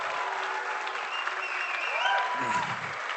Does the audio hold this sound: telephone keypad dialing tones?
no